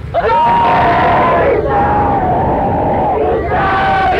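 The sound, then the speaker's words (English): A crowd chants loudly in unison in the ear of Lord Chaitanya on the sand near the ocean, many voices sustaining long tones that swell and dip in a steady rhythm, with a brief lull between phrases and a dense, continuous wash of voices throughout. “They all began to chant very loudly in the ear of Lord”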